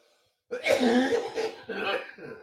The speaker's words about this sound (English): Coughing fit. Sorry.